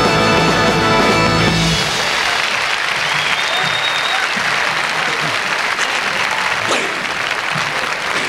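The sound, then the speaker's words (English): A song ends abruptly, then a large live audience at a Las Vegas concert breaks into loud, sustained applause, a dense wash of clapping and cheering that continues steadily for several seconds. “avec des applaudissements beaucoup plus nourris pour sa seconde apparition à Las Vegas”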